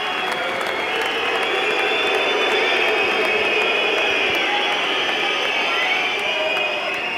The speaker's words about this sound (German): Das war die Performance-Bezeugung für den Schiedsrichter. Ja, da kamen tatsächlich ein paar Buhrufe und Pfiffe tatsächlich dazu.